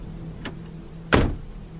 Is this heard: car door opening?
yes